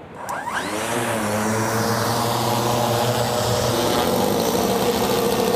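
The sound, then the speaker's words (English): A custom-built, AI-powered fixed-wing drone with a 5-metre wingspan fires up its propeller engine with a quick rising whine, then settles into a loud, steady buzzing drone as it climbs and accelerates on a trial flight to track Maui dolphins, with no voices. “So the drone we've got, it's a 5 metre wingspan drone.”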